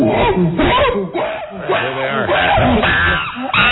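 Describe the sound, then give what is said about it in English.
A person imitates a chimpanzee on a shoot screaming when lunch was served, with loud, rapid hooting shrieks and rising, wavering cries, repeated in bursts over a few seconds. “That's what the chimp did when they served lunch.”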